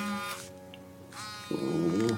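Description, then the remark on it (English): Archie Flowers' cell phone buzzes at the Flowers' house in Winona with a call from Parchman Prison, a steady low droning vibration with a harsh, rattling edge that swells louder and rougher toward the end. “Back at the Flowers' house in Winona, Archie Flowers' cell phone buzzed.”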